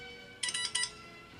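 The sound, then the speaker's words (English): A phone rings with a short electronic ringtone: three quick, bright, high-pitched tonal pulses in about half a second, moderately loud over a faint steady background hum, with no one talking. “Somebody's calling me.”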